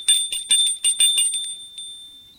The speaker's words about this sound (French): Pas très fier, il sonne à la porte.